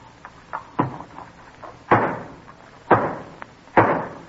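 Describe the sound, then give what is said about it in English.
Several sharp hammer blows drive home the final nail completing the new state house: a few light taps followed by three loud, ringing whacks spaced about a second apart, with no voices. “When this nail is home, the new state house will be ready for the legislature.”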